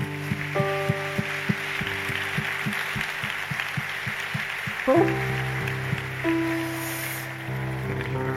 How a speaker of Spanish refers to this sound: Y ellos, familia, hoy son parte de esta iglesia, así que ¿por qué no los recibimos con un fuerte aplauso?